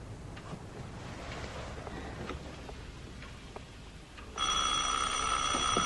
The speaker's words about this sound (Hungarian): Ez mi? Csengő.